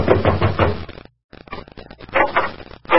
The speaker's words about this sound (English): I knocked at the door.